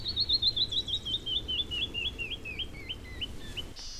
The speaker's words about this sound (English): That was a canyon wren that just sang up here in the rocks, a high descending, beautiful lyrical song. One of our birds that's here all winter, as well as in the summer.